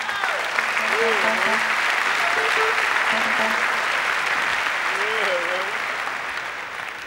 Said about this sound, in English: On bass, would you please give a big round of applause, Mr. Wayne Dockery.